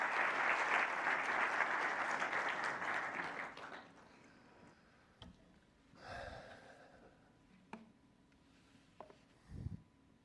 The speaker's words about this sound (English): Please, the stage is yours. A warm applause.